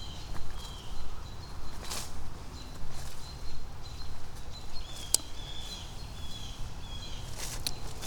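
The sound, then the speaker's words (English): A few irregular footsteps crunch over ground outdoors as a person walks over to pick up a golf ball, with steady low rumble and faint birdsong in the background. “There's one up here. Yeah, here. I'll grab it. Hold on.”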